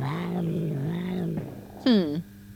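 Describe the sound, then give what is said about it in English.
A cat meows: first a long, wavering, drawn-out cry, then after a brief pause a short, loud, sharply falling meow. “Didn't mean to explode the cat.”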